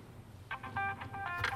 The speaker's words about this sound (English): Oh, I'm sorry. I forgot to turn off my little timer.